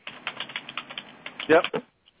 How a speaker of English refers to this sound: You're in some New York typing session there,